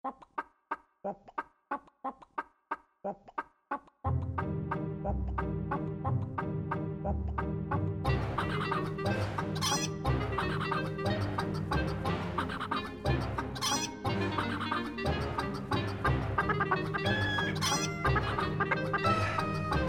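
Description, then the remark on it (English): Funky chicken dance music played for a dance break: a few seconds of rhythmic clucking on its own, then a loud, upbeat band kicks in and keeps going with clucks mixed into the beat. “Let's get our wiggles out with a dance break. Does anyone know how to do the funky chicken?”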